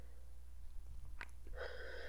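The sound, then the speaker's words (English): Heavy breathing: a short sharp breath, then a long, rough, airy exhale that rises and holds to the end, over a quiet low hum, with no talking. “You love the sound of my heavy breathing.”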